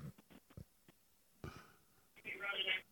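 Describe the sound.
A baby hollers in the background, a loud, strained vocal outburst near the end, after some quiet thumps and muffled voice sounds, with a thin phone-line quality.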